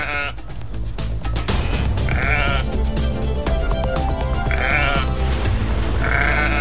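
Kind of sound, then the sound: animal, flock of sheep bleating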